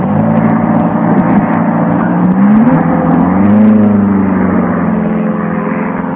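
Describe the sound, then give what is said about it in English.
A car engine revs and accelerates, its pitch climbing and dipping in sustained surges. The loud motor drone fills the whole stretch with no voices. “Self-drive cars in Ireland.”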